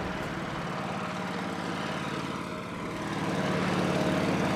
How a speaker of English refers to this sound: There goes a guy in a little tractor.